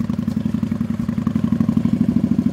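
A motorcycle engine idles with a steady, low, throbbing pulse as riders park their motorcycles in the garden of the roadside Yarımada Et Lokantası restaurant on a road signposted for Eceabat and Çanakkale, at sunset; its rapid chugging rhythm continues evenly throughout without any speech.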